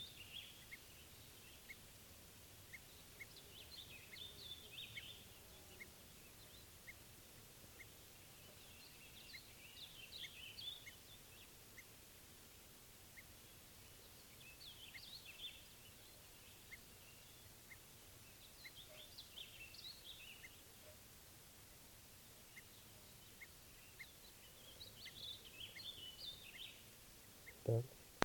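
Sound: bird alarm calls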